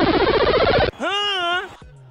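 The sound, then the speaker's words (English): A sci-fi beam-up effect: a dense, shimmering electronic buzz, then a bright harmonic tone that swoops upward and holds, fading into a low, quiet hum. Loud, with no talking. “can I get a beam up?”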